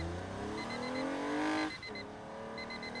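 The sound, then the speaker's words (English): A new Toyota's engine revs up, its pitch climbing steadily before easing off, then settles into a steady hum as it cruises the open road, while a faint high-pitched beeping pulses in short repeated bursts. “That's me awakening after a long winter's nap, cruising the open road in my new Toyota.”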